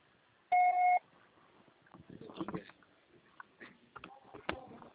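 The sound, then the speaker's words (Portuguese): A single steady electronic voicemail beep signaling the start of recording, loud and clean, lasts about half a second near the start, followed by faint rustling and soft clicking sounds. “Você só será tarifado após o sinal.”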